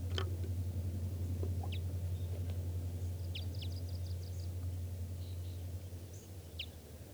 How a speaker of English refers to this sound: I hear the calls of more wild birds. There's a pair here now. At least a pair. And they sound like type 5. Stop. It's recording wild birds.